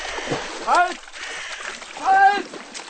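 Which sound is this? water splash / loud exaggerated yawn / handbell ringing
water splash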